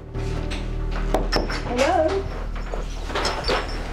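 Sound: knock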